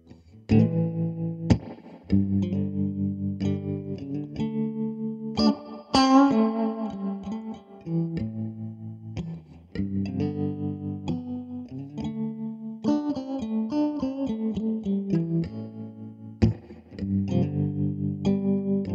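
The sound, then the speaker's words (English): An electric guitar plays a melodic riff through effects, with sustained notes and chords that sound lightly distorted and chorused. Brief pauses separate the phrases, and no voices can be heard. “Here's some guitar.”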